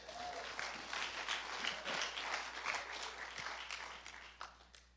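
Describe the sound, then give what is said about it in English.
A church audience breaks into sustained applause for Jesus, dense overlapping claps forming a steady, bright crackle that holds for several seconds before easing slightly toward the end. “Can you clap his hand for him?”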